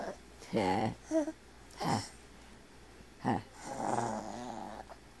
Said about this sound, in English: What you growling for? What? What are you making that funny noise for?